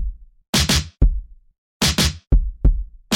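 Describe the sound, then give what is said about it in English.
A hip-hop drum beat loops: deep, punchy kick thumps alternate with crisp, hissing snare cracks in a steady mid-tempo pattern, played loud with no voices. “Listen to that kick and snare, you bitch ass niggas. It's knocking.”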